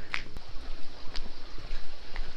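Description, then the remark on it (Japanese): Steady rushing river water runs throughout, with a few sharp wooden knocks breaking through, the pounding of a large water-powered wooden mortar (karausu) at a pottery village with climbing kilns, in fine weather. No one speaks. “お、大きいカラウスの音が聞こえています。”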